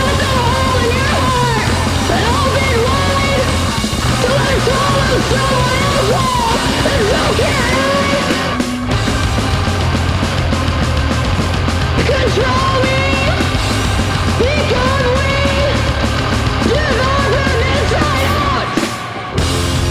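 A loud, dense metal song played on the Metal Shop show on KSW, with heavily distorted guitars, pounding low end and harsh, screamed vocals running throughout, with brief breaks in the wall of sound around the middle and near the end.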